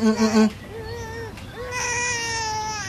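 A baby boy cries, starting with a few loud choppy bursts and then settling into long, drawn-out wails that rise and waver in pitch, not calming down despite being hushed.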